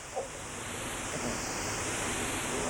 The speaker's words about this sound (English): It's getting windy out there, I know that. That's just a rough wind from the north.